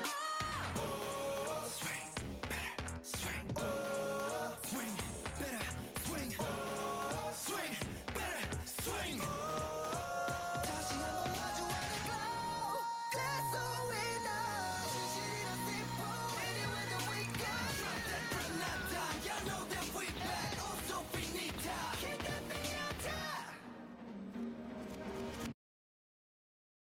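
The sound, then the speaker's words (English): A loud, dense song plays throughout, with strained, shouted vocals pushing over a pounding beat, and it cuts off abruptly near the end. “I don't know, I think they should still not be yelling through it. They're fighting the beat.”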